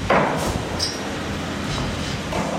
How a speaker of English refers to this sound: Crews vibrate the steel down into place, tall enough to withstand waves and deep enough, engineers think, to stop water from seeping through sand underneath.